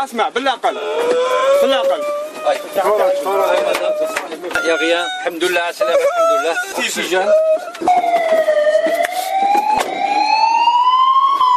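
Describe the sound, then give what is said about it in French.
A loud ambulance siren wails continuously at the scene of a fatal road accident as a seriously injured woman is evacuated to hospital in Blida; its pitch holds and then sweeps steadily upward, over a busy background of voices and clattering noise. “Difficilement, les éléments de la protection civile ont pu retirer la dame. Ambulance.”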